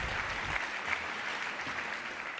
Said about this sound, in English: He will explain everything about AI, sustainability, and power, and big applause for Rainer.